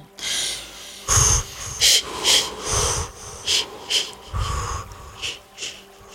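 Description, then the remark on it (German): Heavy, wheezy breathing during a relaxation exercise, a series of loud, airy inhales and exhales with a few snorting bursts, repeating at an uneven rhythm with no talking. “Boah, dein Atem kommt bis mir.”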